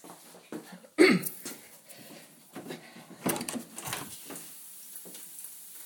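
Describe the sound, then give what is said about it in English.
Rain coming down indoors: a steady, faint hiss broken by irregular patters and splashes, with one louder clattering burst early on. No one speaks. “You can hear it raining.”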